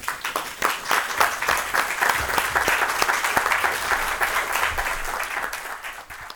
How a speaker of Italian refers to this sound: Grazie, l'applauso era davvero sincero, perché siamo entrati dentro questo testo,